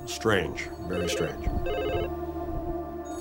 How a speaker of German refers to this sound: Die Türen waren weit geöffnet, Telefone klingelten, niemand nahm ab.